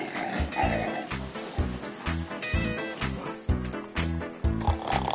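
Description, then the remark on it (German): Pigs grunt while feeding on sorrel, a steady run of short, low grunts overlapping each other, with busy munching and rustling noise throughout. “bringen den Schweinen den Ampfer. Die freuen sich schon total auf ihr Futter.”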